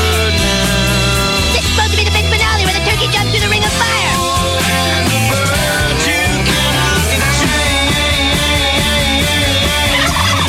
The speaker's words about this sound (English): It's a turkey. Gobble, gobble.